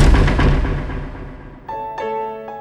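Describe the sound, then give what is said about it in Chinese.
A heavy door slams shut with a loud, booming thud that rings out and slowly fades, followed by a few short, high-pitched tonal cries near the end. “明关上的不只是一扇门，还是他们的求生通道。”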